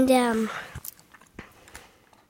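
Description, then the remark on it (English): A brief voiced murmur opens, then crisp crunches of someone chewing a crunchy chocolate candy bar come in a few irregular bites against a quiet background. “It's crunchy. It tastes like crunch.”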